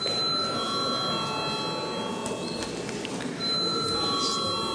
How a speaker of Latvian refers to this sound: Vai deputātiem ir iebildumi? Deputātiem ir iebildumi. Lūdzu zvanu.